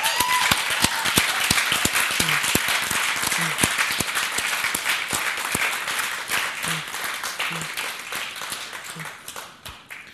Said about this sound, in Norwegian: Vad igen en klapp för han kanske?